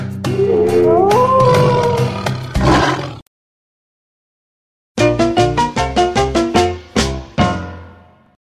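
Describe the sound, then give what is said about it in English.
Bear, wolf and tiger calls: a long, wavering howl with a rough roar at its end, a silent pause, then a loud run of about eight rhythmic, throaty roaring pulses. “Bear, wolf, tiger.”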